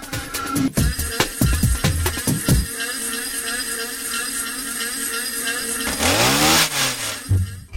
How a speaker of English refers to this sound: I wanted to play with those, so I would ask them, let's play with these machines, let's play with a leaf blower, with a weed whacker.